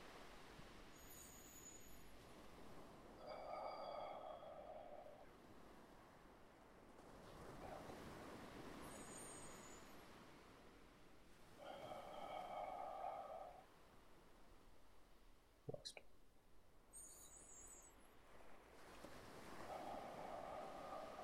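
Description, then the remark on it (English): Ocean waves wash and break steadily in a broad, continuous surf roar, with wind gusting across the microphone and occasional high chirping calls over the top, no talking. “Focus on the ocean. Let it calm you.”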